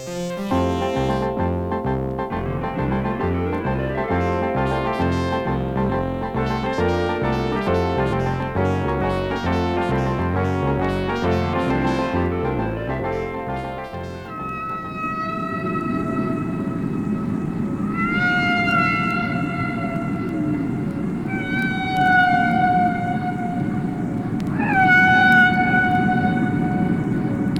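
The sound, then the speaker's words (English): Layered musical tones give way to humpback whale song: long, wavering moans and upward-sliding cries in rich harmonics, repeating over a steady rushing, rumbling background, with no one talking. “The author and the singer of that song was a humpback whale, but it could be you.”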